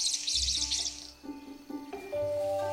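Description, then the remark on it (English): A male King of Saxony bird-of-paradise in the jungle-covered mountains of New Guinea gives a harsh, buzzy, hissing call in the first second, followed by softer tonal notes over a low background hum. “Meet the King of Saxony.”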